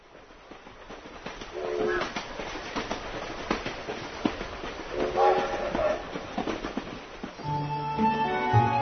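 Trains rumble steadily around a house with rattling, clanking cars, while brief tonal whistles rise and fade; near the end a loud, sustained train horn blares over the noise.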